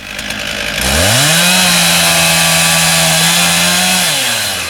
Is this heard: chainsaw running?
yes